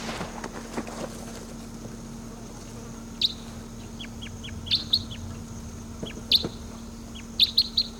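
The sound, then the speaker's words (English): One of two wild birds calls in short, high-pitched chirps, clustered in quick bursts over the second half, set against a steady low hum and faint background noise. “Number one calling there.”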